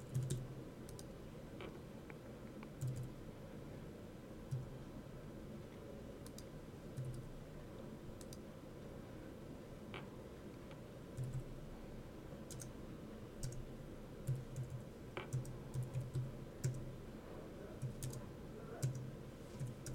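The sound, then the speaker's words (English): Steady keyboard typing with irregular bursts of light clicks and taps over a low background hum, with no one speaking, as someone types run numbers into a new row of a table. “To enter a new row, simply move the insert cell down to the gray column and start typing.”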